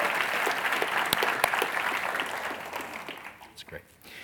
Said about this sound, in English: They're all in a crowd back here. Give them a hand. Let them know you're delighted to be here.